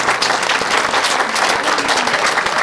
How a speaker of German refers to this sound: Und wie gesagt, ich danke Ihnen für den Applaus, für alle, die hier tätig sind.